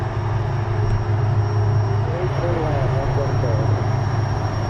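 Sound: aircraft engine in flight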